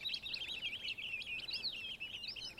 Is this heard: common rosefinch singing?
yes